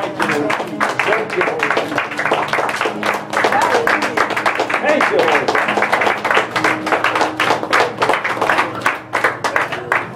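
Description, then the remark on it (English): A church audience gives a hand clap of praise, clapping steadily for about ten seconds, a dense run of sharp, rapid hand claps blending into sustained applause, with voices murmuring and calling out underneath. “Can we just give one more hand clap of praise?”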